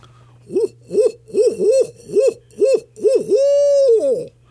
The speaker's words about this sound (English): But this barred owl is very common here. And he sounds like he's saying, who cooks for you? Who cooks for you all? Here he goes.